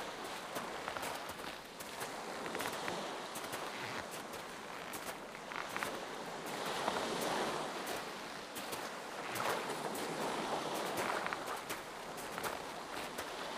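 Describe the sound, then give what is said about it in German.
A steady wash of Baltic Sea waves rolls in at a moderate level on a snow-covered beach in winter, with crunching footsteps of someone walking along the shore in a regular rhythm over the surf, and no one speaking. “Ich gehe über den schneebedeckten Strand immer weiter am Meer entlang und genieße die winterliche Stimmung an der Ostsee.”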